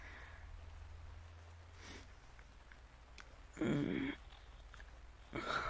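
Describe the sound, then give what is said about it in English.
Steady rain patters softly and constantly in the background over a low hum, broken by two short, louder breathy bursts toward the end. “I'm leaving when it stops raining, if that's what you want.”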